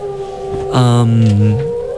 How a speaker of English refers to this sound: I think that's definitely at least one. This one is slowed down solo whale.